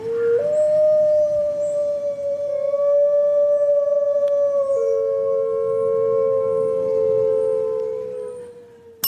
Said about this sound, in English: Wolf. That is a wolf, yes. Gray wolf.